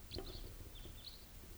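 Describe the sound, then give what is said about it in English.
Faint, high chirping flight calls of a pair of type 4 birds, one a juvenile, come in two short bursts, a few quick notes each, over a steady low rumble with no talking. “Looks like a pair of type 4s and maybe another type 3 somewhere.”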